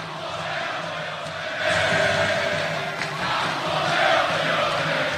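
A large stadium crowd of Galo fans sings together as the teams line up on the pitch for the Brazilian national anthem, a loud, dense wash of many voices with sustained tones that swells after the first couple of seconds and stays steady throughout.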